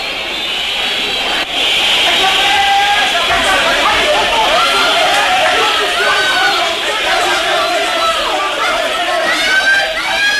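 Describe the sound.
A large crowd shouts and yells continuously for about ten seconds, many overlapping voices forming a loud, dense roar with only a brief dip early on.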